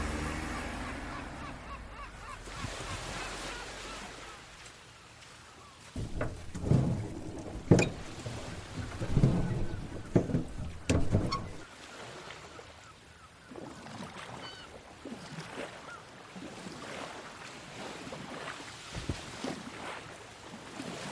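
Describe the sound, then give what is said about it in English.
A small boat sets off from Bandar Turkaman Pier toward Ashurada Island, its motor and hull noise building from a low rumble into louder bursts, with wind and water sloshing around it and faint calls in the background. “The boatman is ready and we set off.”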